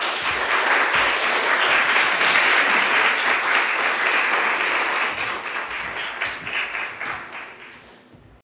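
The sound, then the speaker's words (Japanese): A church audience claps in steady, dense applause for several seconds to welcome a guest speaker from the Hunger Zero (Japan Food for the Hungry) organization at a World Food Day service. The clapping then thins out and fades away near the end. No one speaks over it. “近藤隆常務理事をですね、拍手を持ってお迎えしましょう。”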